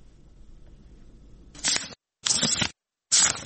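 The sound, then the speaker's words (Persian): Three quick papery swishes as a 14-year-old Afghan schoolgirl turns the pages of her books, each a short rustling burst separated by brief silences, fairly loud after a faint low background hum. “با هر بار ورق زدن کتابهایش خاطره تلخ روزی را باید می آورد که برایش اجازه داده نشد داخل مکتب برود.”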